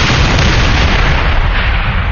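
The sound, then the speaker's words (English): Grenades tossed by the handful through torn-apart doors into the smoke explode, merging into a loud, continuous roar of rumbling blasts, heavy in the low end and sustained without pause for about two seconds. No voices are heard. “At his signal, his men tossed handfuls of Grens through the torn-apart doors into the smoke.”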